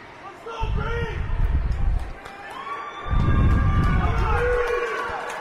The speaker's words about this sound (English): Crowd trying to cheer on the Evergreens here as they're now down by 4 goals.